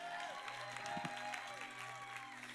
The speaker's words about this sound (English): Thank you, Jesus. Give Jesus a big clap right here.